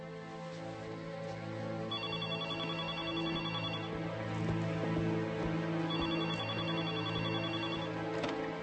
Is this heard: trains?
no